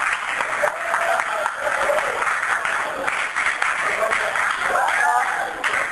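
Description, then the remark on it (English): An audience claps steadily for about six seconds as a speaker is introduced, a dense, even patter of many hands that holds at a fairly loud level throughout, with a faint murmur of voices mixed in. “Usually I like to sit in the back and get more applause, but you guys stop early anyway, so.”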